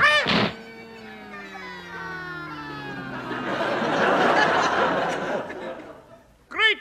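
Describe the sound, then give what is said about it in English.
A comic explosion effect of a Scottish gentleman exploding: a long descending whistle gives way to a sustained, crackling burst of noise, bracketed by short warbling vocal yelps at the start and end. “He's exploded completely.”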